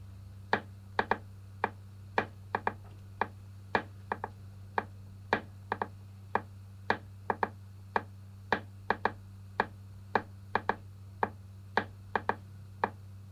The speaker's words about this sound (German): Hört gut zu. Nochmals. Ich klopfe diesen Rhythmus nun noch einige Male und ihr klopft ihn mit dem rechten Zeigefinger leise mit.